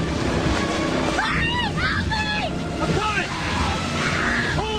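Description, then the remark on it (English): The engines of the boat Sea Dreamer race as it barrels toward shore over rough, crashing ocean waves in a steady, loud roar, with frantic shouting voices crying for help breaking through the noise several times. “rushes on deck and starts the engines”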